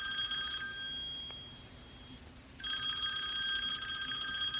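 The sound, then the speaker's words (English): A telephone bell rings loudly in two bursts, the first fading out before a short pause, then the second starting abruptly, as a call is placed to a high school. The shrill metallic ringing plays alone with no voices. “She sighs, picks up her phone, and dials the high school.”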